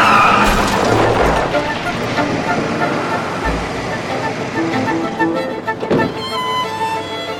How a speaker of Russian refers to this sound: Этот черный Lexus, он выскочил как будто ниоткуда. Резко меня обогнал и вдруг дал по тормозам. Я тоже затормозила, но столкновения избежать не удалось. Я ткнулась носом прямо ему в задний бампер.